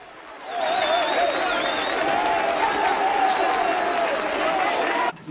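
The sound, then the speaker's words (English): A small group, the Grimley Colliery Band, cheers and claps loudly and continuously, punching the air and hugging, with excited shouts and whoops rising over steady applause for several seconds before it cuts off abruptly. “The band are ecstatic, punching into the air, cheering and hugging one another.”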